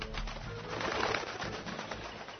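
Low, throaty pigeon cooing rolls on steadily for a couple of seconds, soft murmuring calls layered over a faint hiss, with no one talking.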